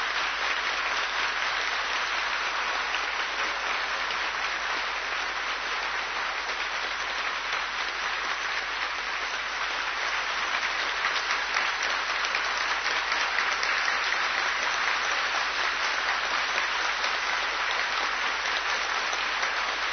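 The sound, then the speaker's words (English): An audience claps steadily for His Holiness Naranjan Swami Maharaj for the full stretch, a dense, even wash of many hands with no voices or pauses breaking through. “You may be a little proud by how you clapped for him.”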